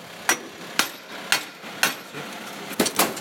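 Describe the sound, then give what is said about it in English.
Police officers use an axe, a hammer and other tools to break down the door of a large shed, with heavy blows pounding the wooden door, roughly seven sharp strikes landing in a steady rhythm about half a second apart, with no voices. “They're using an axe and a hammer and other tools to try and break down the door.”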